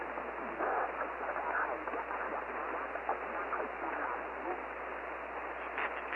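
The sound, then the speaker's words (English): Steady hiss of radio static fills the band, with faint, garbled voices murmuring underneath, muffled, continuous throughout. “Kilo Alpha 5, Delta Oscar Bravo, much static and a few voices there with you.”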